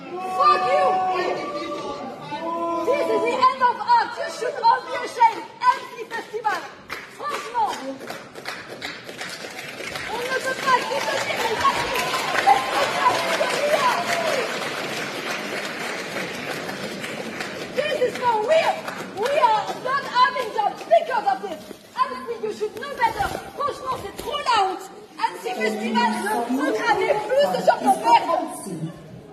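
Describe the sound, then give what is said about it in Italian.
A cinema audience at a film screening heckles, whistles and boos in protest at the film's use of artificial intelligence, many voices shouting over one another in a loud, restless din that swells in the middle and keeps surging for the whole half minute. “Vergogna, vergogna, questa è la ragione per cui non abbiamo più da lavorare, dovreste vergognarvi, insulti, fischi, bu, nonostante l'autore fosse stato molto trasparente nel raccontare che parte avesse avuto l'intelligenza artificiale nel processo”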